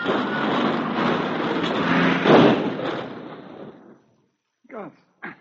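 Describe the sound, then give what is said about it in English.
A car skids and overturns on a snow-covered road in Northwood, Iowa: a long, rough, grinding roar peaks in a loud crunching crash midway, then fades into silence before two brief vocal sounds. “The snow made it rather rough going, and then suddenly their car skidded and turned over.”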